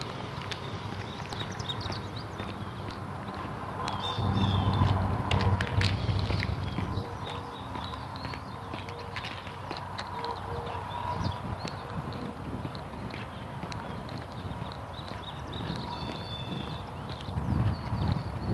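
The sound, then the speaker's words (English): Goat hooves clip-clop past in a steady, uneven patter outdoors as a man goes by with the goat, growing louder for a few seconds before continuing on, with no one talking. “There comes the guy and the goat again.”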